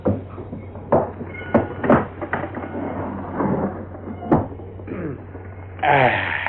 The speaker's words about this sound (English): Oh, well, I better get this door shut, I guess.